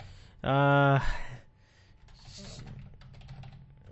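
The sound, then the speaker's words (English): A short, loud tonal vocal sound is followed by a run of soft, irregular clicks from someone typing on a computer keyboard, fairly quiet. “I'm just right now what I'm doing is I'm typing in the next show thing.”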